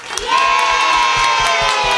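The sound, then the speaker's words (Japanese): An audience at a live radio music event cheers and shouts loudly and steadily. High whoops and raised voices rise together into a sustained roar that carries through the whole moment. “すごい熱気ですね。”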